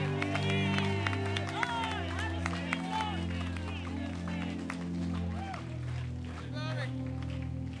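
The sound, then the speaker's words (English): An audience claps steadily for several seconds as a clap offering for the Lord, dense overlapping hand claps mixed with excited shouts and cheering voices over a sustained low droning tone, loud throughout. “A clap offering for the Lord.”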